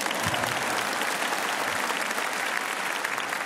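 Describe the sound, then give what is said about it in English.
A church audience breaks into sustained applause during a sermon about honoring the Sunday Sabbath, a dense, steady wash of many hands clapping at even loudness for several seconds with no voices rising above it. “Are you going to clap for that?”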